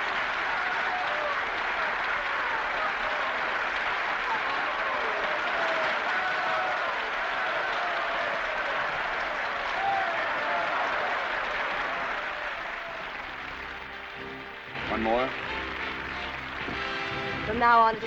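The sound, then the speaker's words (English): Sustained applause from a theatre audience as the actors leave the stage and Margot takes her curtain call in an enormous hoop skirt: a dense, steady clatter of many hands for about thirteen seconds, then thinning out as voices begin talking over the last few seconds. “Applause.”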